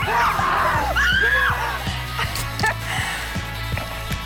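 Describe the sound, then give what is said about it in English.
Several people scream and yell in fright while going through Six Flags Fright Fest, loud shrieks rising and falling early on, over a steady pounding low beat that continues throughout. “Grab a Coke and try not to scream at Six Flags Fright Fest.”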